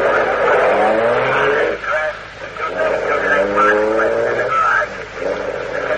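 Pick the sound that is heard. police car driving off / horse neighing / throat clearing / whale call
police car driving off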